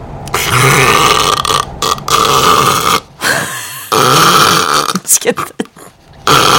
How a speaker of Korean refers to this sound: 아니 근데 나도 혹시 저렇게 코를 시게 고는 게 아닐까?